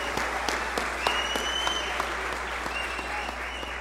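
A steady round of applause from a crowd, dense and continuous clapping at an even loudness for a few seconds, with a faint high whistle-like tone running through part of it.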